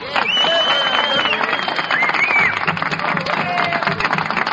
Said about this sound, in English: Fellas, I've never asked you this before, but if you enjoyed it, would you... Let's hear the applause from the orchestra here.